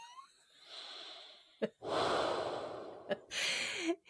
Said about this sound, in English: And then did you hear my breathing in the echo?